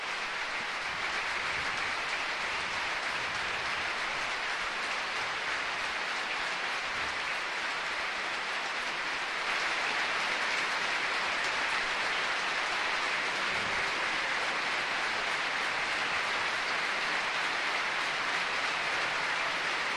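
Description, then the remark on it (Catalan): A standing crowd at the Estadi de la Ceràmica gives a long, sustained ovation, more than a minute of applause following a minute of silence: a dense and steady roar of applause that never lets up and swells slightly louder about halfway through. No one speaks over it. “I és el que esteu escoltant, l'ovació de l'estadi de la Ceràmica en un moment especial.”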